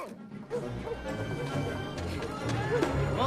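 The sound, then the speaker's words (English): Rapid, heavy footfalls of tigers running down from rocks toward a human encampment, a dense, continuous patter of thuds over about three seconds, with some scattered vocal-like sounds mixed in. “The tigers start to run.”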